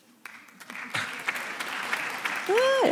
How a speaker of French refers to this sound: Tiens par exemple, voilà, par applaudissement, qui est pour le maintien de la polarisation dans les débats ?